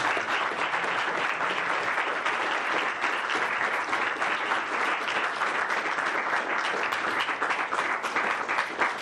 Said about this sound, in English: Thank you, Dr. Whitcomb. I think we need to give Dr. Whitcomb a round of applause.